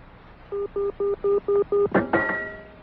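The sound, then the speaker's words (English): A telephone being dialed: six evenly spaced touch-tone beeps in a steady rhythm, clear, followed by a sharp clunk and a brief tonal ring on the line. “but I'll have to go and make a phone call.”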